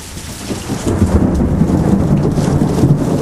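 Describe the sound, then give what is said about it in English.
Thunder from a lightning storm rumbles loudly and continuously over steady rain, with rainwater dripping and splashing off a roof throughout; no voices, just a dense, heavy storm wash. “All right, we're just listening to the water drip off the roof here.”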